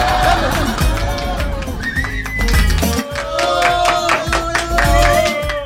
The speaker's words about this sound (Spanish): La gente, qué manera de aplaudir, ¿ah? ¿Eh? Qué manera de aplaudir el público de la radio.